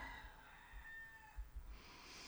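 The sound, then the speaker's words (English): A rooster crows once in a long, drawn-out call, faint against a low background rumble and hiss, with no voices present. “Accept any sounds like a rooster crowing, a dove calling.”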